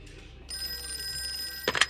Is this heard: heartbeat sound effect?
no